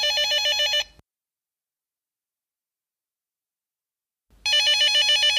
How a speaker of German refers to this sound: Kannst du vorher noch unser Telefongeräusch einspielen? Natürlich, das haben Sie jetzt quasi schon gehört. Danke, aus unserem Gründungsjahr.